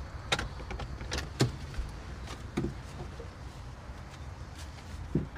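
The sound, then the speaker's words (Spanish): Inside a car with a low engine or road rumble, a few sharp clicks and thuds sound as a person handles the door and gets out while another person stays inside. No one speaks. “Alex traga saliva, sale del auto y Arquímedes permanece dentro con la mirada fija hacia adelante.”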